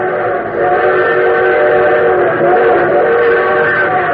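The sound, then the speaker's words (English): A train whistle blares steadily and loudly for several seconds, a sustained chord-like wail that grows fuller as the train draws near, with rumbling rail noise underneath. “So your train whistle sounds closer.”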